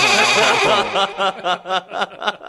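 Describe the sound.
A person imitates a goat, starting with a long wavering bleat and breaking into a series of short, quavering bleats, fairly loud with no other sounds.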